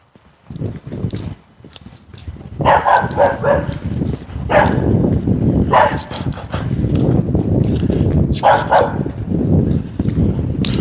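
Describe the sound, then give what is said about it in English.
A dog barks in loud, repeated bursts, with a steady patter of running paws or rustling between the barks and no one talking, as it runs down across a yard to a fence. “But as soon as I start walking by the fence, he comes running down and runs over the fence and starts barking.”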